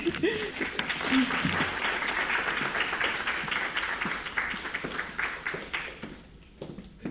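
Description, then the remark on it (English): An audience applauds the readers at a reading event steadily for about six seconds, a dense wash of many hands clapping at once, then it thins out and tapers off into a few scattered claps at the end. “How about another round of applause for all of our readers today?”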